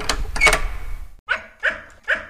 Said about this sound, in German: Sie war weiß und hatte einen rosa Zopf. Die Pudeldame bellte verführerisch.